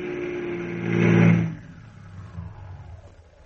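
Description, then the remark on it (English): An ambulance engine hums and swells to a brief peak, then its steady tone drops away as the ambulance slows and halts at the ambulance entrance of City Hospital, leaving a low idle rumble that fades out. “It stops in the ambulance entrance of City Hospital.”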